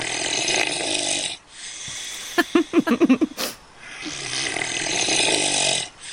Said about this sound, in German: Und es ist nicht der Opa. Es ist ein Schwein? Ja, ja! Das war ein Schwein.